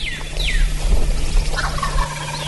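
A male wild turkey gobbles in the morning as rain comes in, on land bordering the National Scenic Riverways, a rolling burst of rapid notes over steady outdoor hiss, with a few thin bird whistles early on.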